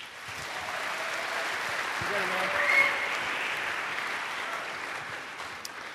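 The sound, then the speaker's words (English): Steady audience applause at an evening of talks, welcoming the last speaker, fills the whole stretch, a dense wash of many hands clapping at an even level, with a faint voice or two briefly poking through midway. “Round of applause for”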